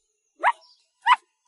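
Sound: small dog barking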